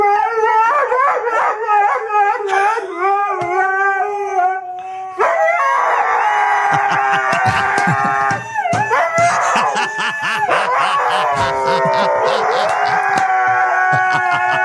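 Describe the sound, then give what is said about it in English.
Three husky dogs howl loudly and continuously at 7:30 in the morning, long wavering high-pitched notes sliding up and down, with several howls overlapping into a chorus after a few seconds. No one speaks. “Maybe the best dog video you have ever had.”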